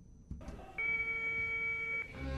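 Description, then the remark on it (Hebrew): A telephone rings once with a steady electronic tone lasting just over a second, clear and fairly loud, preceded by a short soft click and followed by low background rumble. No one speaks. “אנחנו שומעים צלצול של טלפון וגם שיחה.”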